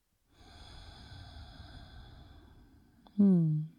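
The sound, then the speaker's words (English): A slow, steady breath drawn in through the nose for nearly three seconds, soft, with a hand placed on the heart, then a short louder voiced sound at the end. “So just breathing in and out through the nose, hand to your heart center, feeling into this moment.”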